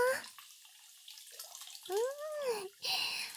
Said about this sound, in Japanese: 最後にご主人が大好きな炭酸水マッサージやっちゃいましょうか。 毛穴の汚れが取れて頭皮の血行が活性化しますからね。いいですか？行きますよ。シュワシュワシュワ。